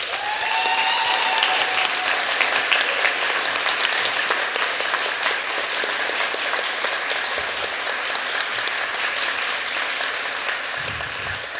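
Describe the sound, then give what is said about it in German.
Sustained, steady applause from an audience voting for the first performer, who read a text about his father, to reach the final; a dense wash of many hands clapping at an even, fairly loud level, with a brief whistle near the start. “Wenn ihr denkt, dass der erste Auftretende mit seinem Text über den Vater in allen Facetten von Vater bis Sohn ins Finale kommen und vielleicht seinen Vater stolz machen soll, dann klatscht bitte jetzt”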